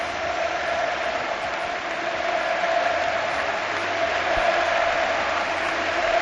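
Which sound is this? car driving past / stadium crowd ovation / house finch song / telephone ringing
stadium crowd ovation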